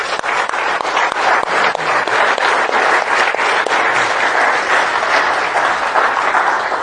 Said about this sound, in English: we just give them an applause?